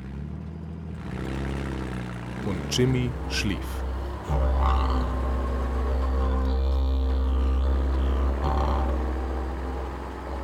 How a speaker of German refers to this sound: Und als er voll war, schlugen die Männer die Tür zu und der Lastwagen fuhr los.